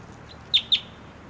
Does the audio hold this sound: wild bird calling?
yes